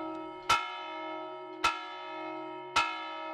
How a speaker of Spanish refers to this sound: Cada conjunto de campanadas responde a un tipo de toque que forma a su vez un ritmo propio. Transmitían un mensaje, pero cada mensaje o señal tenía sus propias especificidades.